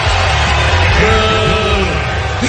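A dense crowd roars and yells continuously, with overlapping shouts and cheers rising in waves over a loud, steady wash of noise for the whole stretch.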